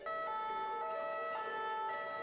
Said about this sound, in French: Ambulance dans la rue.